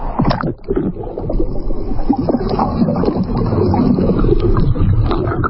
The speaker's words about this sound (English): Now, those are boats. Those do float.